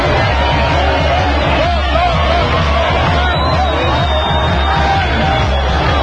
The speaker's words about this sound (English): I mean, it was mayhem. Okay. Okay. All right. Here we go back. So this is, in fact, the riot.